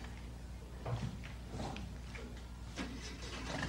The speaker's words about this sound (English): All right, the engine turn over.